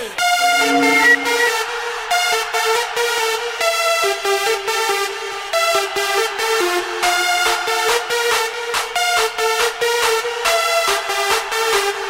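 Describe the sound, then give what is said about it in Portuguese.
A loud DJ air horn blares in rapid, stuttering bursts, its brassy, buzzing tone repeating over and over for several seconds with only tiny gaps between blasts, with no talking. “Fala aí, corneta, fala aí!”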